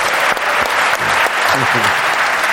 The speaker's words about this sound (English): I'm exhausted after an hour of these things. I honestly don't know how you do it. You have a round of applause.